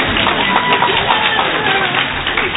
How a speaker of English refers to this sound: amen, you can clap. I know you guys want to. Go for it.